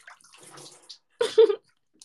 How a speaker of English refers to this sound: Did you hear the water spill?